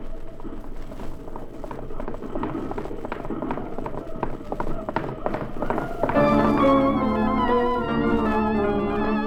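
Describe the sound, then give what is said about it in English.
Horses gallop at a rapid, steady rhythm of hoofbeats for about six seconds as Anne Bailey, in a blanket, rides hard leading a pack horse with powder to a fort, then dramatic orchestral music swells in over the pounding. “that redskin with the blanket, riding like fury and leading a pack horse.”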